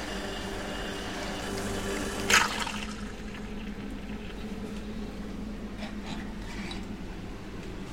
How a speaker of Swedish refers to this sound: Och nu har vi fått ut två espresso till och med har vi fått ut 3 centiliter.